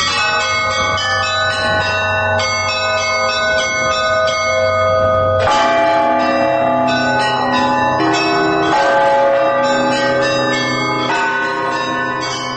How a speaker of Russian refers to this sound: Здесь на колокольне Свято-Серафимовского собора у нас висит 14 колоколов.